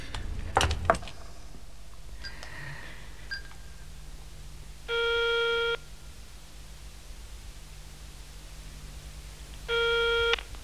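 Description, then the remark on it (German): Two mobile phone call tones ring out, each a steady buzzy beep lasting under a second, spaced about four seconds apart, preceded by a brief clatter of handling noise at the start. “Geben Sie mir das Handy.”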